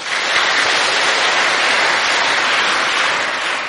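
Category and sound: crowd, children applauding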